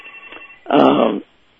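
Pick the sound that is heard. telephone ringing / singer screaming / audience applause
telephone ringing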